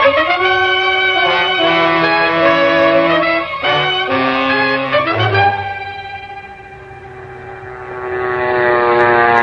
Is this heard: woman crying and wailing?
no